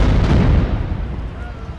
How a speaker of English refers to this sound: So we're standing on a street corner talking about the fact that unexplained shooting and explosions happen here all the time. And to prove the case, we're hearing it right now. No one knows exactly who's shooting. No one knows exactly why,